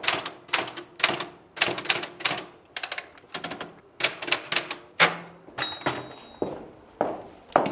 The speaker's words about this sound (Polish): Od maszyny do pisania.